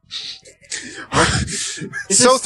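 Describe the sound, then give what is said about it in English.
A voice lets out a series of breathy, dramatic gasps in quick succession, building louder and ending on a sharp, voiced, high-pitched intake of breath. “This is starting off pretty like my model with everyone gasping all the time.”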